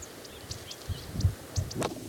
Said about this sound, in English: There's a bridal titmouse and some other birds.